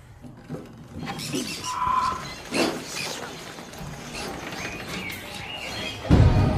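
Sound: birds chirping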